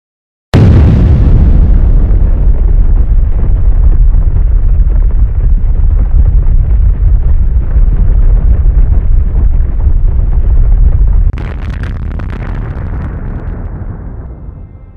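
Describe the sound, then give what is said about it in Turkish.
A sudden, massive explosion representing the Big Bang erupts, followed by a long, deep, roaring rumble that sustains loudly before a crackling burst and slow fade near the end. No voices are heard. “birçok insan, büyük patlamanın geçmişte yaşanmış ve bitmiş bir olay olduğunu zannediyor.”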